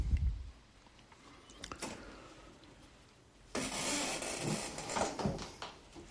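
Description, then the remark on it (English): A chair creaks and shifts with crackly, scraping noises: scattered short creaks at first, then a louder, longer stretch of rough creaking and rubbing in the second half. No one speaks. “All right, that's my speculative chair creaking.”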